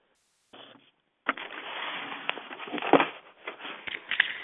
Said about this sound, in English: Hear the shuffling of papers, and does that mean there is a question forthcoming, or no?